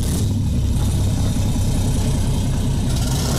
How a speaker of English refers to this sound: She's got four engines, four Caterpillar 650 horsepower engines, so she's got 2,600 horsepower in total. And she does sound pretty epic when they're all running.